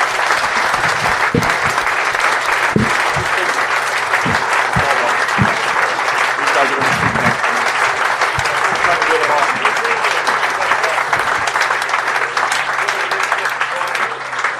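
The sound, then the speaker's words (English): Sustained applause from an audience as guests leave the stage after part one of an event, a dense, steady wash of many hands clapping at an even loudness for about fifteen seconds, with occasional sharper individual claps standing out. “So clap them off.”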